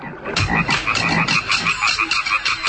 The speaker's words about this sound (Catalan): Si aneu a vora d'un llac i sentiu els cants de les granotes, potser teniu sort i sentiu també els ritmes del tam-tam màgic.